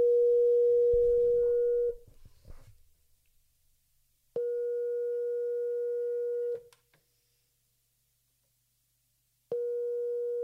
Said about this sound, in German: Entschuldigung, ich müsste mal richtig wählen. So, jetzt ist Freizeichen.